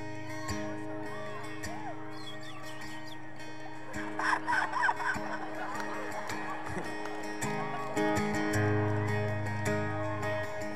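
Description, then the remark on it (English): A human voice imitates seagull calls for the beginning of a song, with a string of squawking, warbling cries that peak in a rapid burst midway, set against a steady low droning tone throughout. “I'm envisioning for this is a song for my new record, and I want there to be like seagulls and stuff at the beginning, so I have to sort of do it myself here.”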